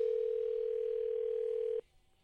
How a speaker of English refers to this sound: Got to make a phone call here.